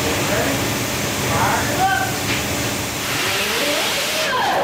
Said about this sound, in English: The LST is powered by twin 100-year-old locomotive engines, each the size of a passenger car.